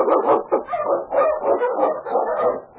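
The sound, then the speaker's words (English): A pack of Eskimo sled dogs, led by the wonder dog King, barks and yips in a dense, overlapping chorus while blazing a trail through storm and snow in the Yukon. Loud, with rapid repeated calls and no pause for the whole stretch. “The Wonder Dog King, swiftest and strongest of Eskimo League dogs, blazed the trail through storm and snow for Sergeant Preston as he meets the challenge of the Yukon.”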